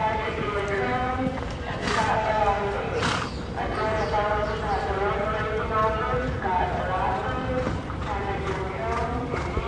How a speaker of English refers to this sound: The only sound is the soft thudding of hoofs on the thick carpet of dirt and the strained breathing of the